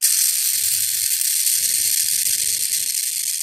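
A harsh, hissing rasp fills the whole clip, steady and loud like a rattlesnake's buzz, with faint low fluttering underneath. It is a protective adult burrowing owl's defensive scream as its artificial burrow, a buried 5-gallon bucket at a former depot, is checked for chicks, with no talking.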